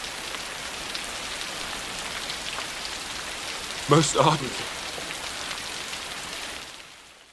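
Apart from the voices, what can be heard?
heavy rain pouring down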